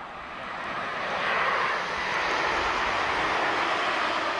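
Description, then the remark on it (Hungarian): A loud, sustained roar of a low-flying jet airplane passing overhead near Ferihegy Airport, heard by residents of Pestszentlőrinc; planes pass every 5-10 minutes, also at night. A broad rushing engine noise that swells slightly and holds steady, with no voices present. “Tényleg ilyen sűrűn járnak a repülők, és állandóan 5-10 percenként, és éjszaka is mennek, állandóan mennek, olyan nincsen, hogy tényleg akárhány szó kinézünk, itt mindig a repülő megy.”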